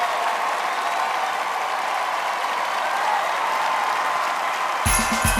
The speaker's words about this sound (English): … turns and applauds to her band, which is about 10 people, all dressed in black. The crowd wave their glowing batons.